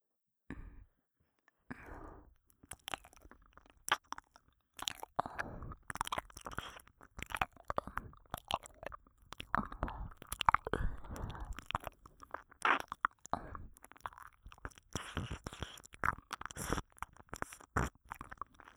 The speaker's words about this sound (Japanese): 耳なめで、さらに固くしておきましょうか。